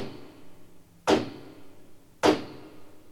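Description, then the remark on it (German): Two heavy knocks from a large copper door knocker on a castle gate, spaced about a second apart, each a loud strike with a brief ringing decay over a faint background hush. “Sie klopften mit dem großen kupfernen Klöppel an das Schlosstor.”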